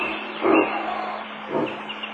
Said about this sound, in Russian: Вдалеке рявкнул кабан.